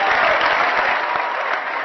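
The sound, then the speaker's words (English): A crowd applauds steadily, a dense, sustained wash of clapping with cheering and laughter mixed in, loud and continuous throughout the short stretch, reacting to talk of Chicago being destroyed by a nuclear weapon. “Cheers and laughter and applause at the idea of Obama's hometown being obliterated by a nuclear weapon”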